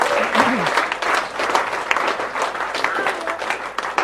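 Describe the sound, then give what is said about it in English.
A church audience breaks into sustained, dense applause for those who have just prayed for the first time, many hands clapping steadily and fairly loudly throughout, with a few faint voices mixed into the clapping. “Let's give a round of applause for the people maybe who've prayed that for the first time.”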